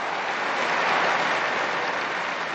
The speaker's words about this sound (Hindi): तब संत पापा ने ताली बजाकर नए धन्यों को सम्मानित किया।